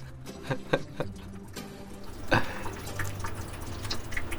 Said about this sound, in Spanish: Es un palo de agua. Es Adrián con un palo de agua.